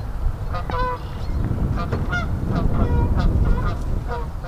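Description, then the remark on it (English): Canada geese honk repeatedly in an overlapping chorus, loud, over a steady low rumble of outdoor ambience in a marsh, recorded from a bird blind at the end of a long wooden walkway jutting into the marsh. “Plenty of red wings, blackbirds, not hockey players, and some Canada geese.”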